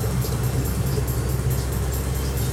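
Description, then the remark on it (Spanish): Steady low engine rumble and road noise fill a car cabin in motion on the way to Riñigüe on Christmas Day, a constant dense drone with faint higher hiss and periodic soft ticking above it. “Ah, mira, ahí están en el auto.”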